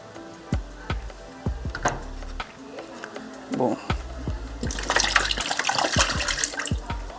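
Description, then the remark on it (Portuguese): Several clicks and knocks from tripod legs being adjusted, then water is poured into a coffee maker, a steady splashing rush filling the last couple of seconds, fairly loud. “Agora eu tô enchendo a cafeteira com água.”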